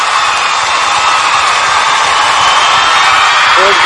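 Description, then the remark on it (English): A canned applause effect played to welcome a producer: dense, steady clapping from a large crowd that holds at an even, loud level for a few seconds without any voices over it. “Go ahead, Will, with the clap.”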